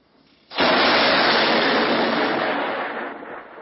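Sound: thunder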